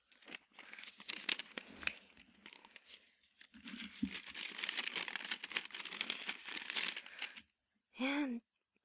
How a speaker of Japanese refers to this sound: あ、なんか可愛い包装紙に入ってるね。開けていい？